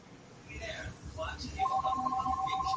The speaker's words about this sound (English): Whose phone's ringing? Yeah, I think you can hear us, but... Your phone's ringing. Someone's calling on our phone?